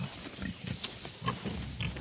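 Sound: pigs grunting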